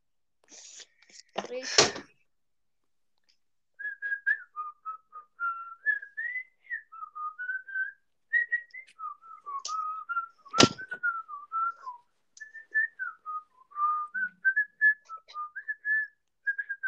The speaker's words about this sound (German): Jetzt hör auf zu pfeifen und mach. Ich pfeife gerade ein Lied meines Sponsorens nach.